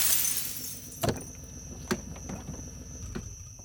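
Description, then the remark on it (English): Two sharp, brittle impacts about a second apart as the driver's side window of a locked car is smashed with a rock, with faint rattling debris and a thin steady hum underneath; no voices. “I ripped away a strip of duct tape from the top of his window and smashed it with a rock.”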